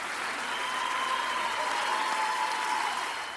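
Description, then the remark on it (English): Sustained applause from an audience of several hundred admirers and supporters greeting a mayor as he walks slowly with a cane to a low stage, a dense, steady roar of clapping with faint cheering mixed in, holding at full strength throughout. “Applause greeted him every step of the way from an audience of several hundred admirers and supporters.”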